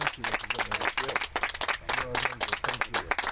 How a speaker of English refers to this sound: Representative Roy, a big round of applause. Thank you for your leadership and for the kind words.